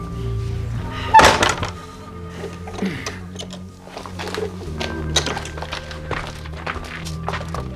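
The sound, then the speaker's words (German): A door thuds shut with one heavy knock as two men go out into a stairwell, followed by a run of small clicks and taps like a key turning in the lock, over a low steady background hum. “Die beiden Männer waren ins Treppenhaus gegangen und hatten die Tür wieder abgeschlossen.”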